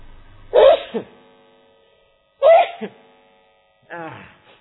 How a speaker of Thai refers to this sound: แม่ไม่ได้ขู่นะนะมันจามนะ